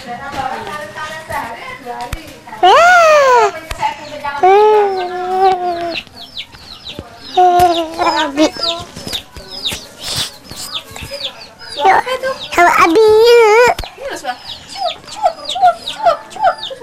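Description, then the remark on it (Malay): Chickens cluck in short, repeated bursts, mixed with loud, high-pitched voices of people talking over and between the calls. “Ayam. Ayam mana ayamnya? Huh? Ada berapa ayamnya?”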